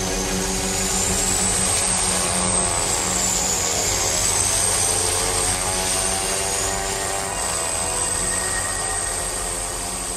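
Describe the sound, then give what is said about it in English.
A small plane's engine drones loudly and steadily throughout, a dense continuous roar with a thin high whine wavering above it, heard from inside the cabin jammed with sledges as it flies over the Arctic. “He's against your pulks, your sledges, which are all jammed into this little plane as well.”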